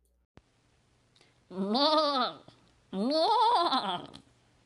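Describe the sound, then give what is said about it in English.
Two long, wavering goat bleats, loud and nasal with a quivering tremble, separated by a brief pause, preceded by a faint click and a low hum. “Inspiration Goat, what do you got for us?”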